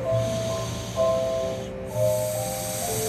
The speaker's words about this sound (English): There's also a community center, a gym, and an on-site daycare where snoring toddlers nap on a winter afternoon.